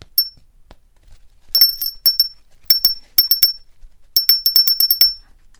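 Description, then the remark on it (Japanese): A handmade Japanese wind chime (furin) in light blue and blue, made at a hands-on craft workshop, rung in quick bursts of bright, high metallic clinks, several rapid strikes in each of three clusters, each ringing briefly before fading into quiet. “急に風鈴の音がラジオから聞こえてきてね。”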